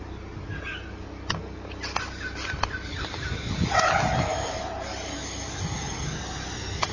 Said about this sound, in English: You may have heard the sound of the drill as it went into the tank. It reverberates. If the tank is completely empty, it's a big plastic tank.